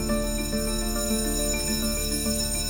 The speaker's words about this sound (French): Il est 10h25, la sonnerie retentit, les élèves s'installent.